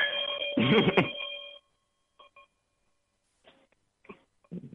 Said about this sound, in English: And I just want to say one thing before I ring my chime here.